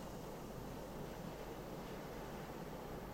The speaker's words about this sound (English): And you notice the sound of the waves as they break gently on the shoreline.